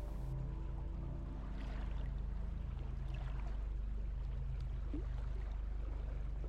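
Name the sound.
flowing water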